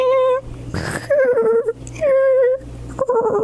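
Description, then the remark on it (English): A voice imitates a cat snoring in a told story, Grandma, Little Boy, and the Squeaky Door: a breathy, raspy intake followed by high, wavering whine-like tones, repeated three times in a slow rhythm, fairly loud. “And yes, cats really sound like that when they snore.”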